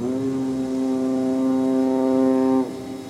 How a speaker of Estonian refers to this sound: Udusireen huilatas.